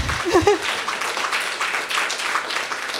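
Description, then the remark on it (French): An audience applauds Barbada with a steady, dense patter of many hands clapping for about three seconds, and a brief voice is heard at the very start. “Barbada, oui, applaudissons Barbada.”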